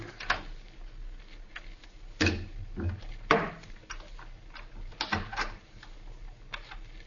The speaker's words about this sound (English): Quiet. Somebody's unlocking the door through which we came. Maybe they won't come in here.